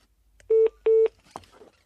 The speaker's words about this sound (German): Nummer wird gewählt.